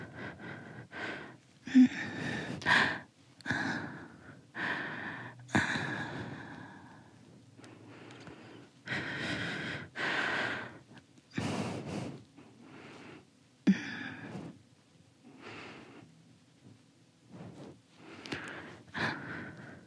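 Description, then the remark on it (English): Close, heavy breathing in a steady series of sharp inhales and exhales as a person moves around in bed, with soft shuffling of bedding faintly underneath and no talking. “But you're probably gonna get a lot of breathing sounds from here. And me moving around the bed.”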